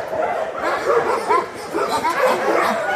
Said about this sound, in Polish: To ich szczekanie brzmi jak taki krzyk, zauważ mnie, weź mnie, tak? Też tak, można tak odczytać? Tak, one nie mają tutaj na pewno żadnej złośliwości w swoim szczekaniu, no po prostu zwrócić na siebie uwagę.